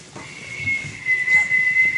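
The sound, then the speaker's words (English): A voice imitates an old-fashioned whistling water kettle with a sustained, steady high-pitched whistle lasting about two seconds, fairly loud, with some breathy noise underneath. “The old-fashioned water kettle go, woo.”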